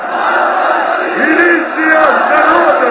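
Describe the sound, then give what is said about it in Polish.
A crowd of several hundred thousand on a square in Kyiv chants and roars in unison as ranks of police appear, shouting that the police are with the people. A dense, continuous wall of voices with rising shouted swells, loud and sustained throughout. “Zuchy, milicja z narodem, krzyczał kilkuset tysięczny tłum, gdy na placu pojawiły się całe zastępy milicjantów.”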